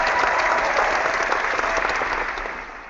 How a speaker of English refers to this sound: Yes, a round of applause for you.